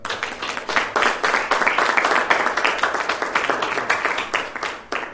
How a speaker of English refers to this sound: Let's just give the Lord an applause for this.